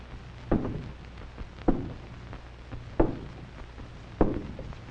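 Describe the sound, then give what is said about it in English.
Four slow, heavy footsteps, a radio-drama sound effect for a villain, fall at an even, deliberate pace, each a loud thud with a short reverberant tail, over a low steady hum and no voices. “Now, how about those sinister footsteps we always hear when the radio villain comes to do his dastardly deed?”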